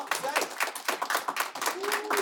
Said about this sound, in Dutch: Maar allereerst heb ik hier bij mij aan tafel, mag ik een applaus voor ze, de 6 experts van het Ingenieur Lely Lyceum.